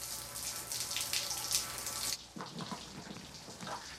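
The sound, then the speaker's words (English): A man turns on a shower; it runs with a loud, steady hiss of spraying water, which abruptly turns softer and more muffled about halfway through, continuing as a duller splashing flow. “He turns on the shower.”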